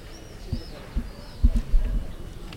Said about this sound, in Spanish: Suena de nuevo el martillo.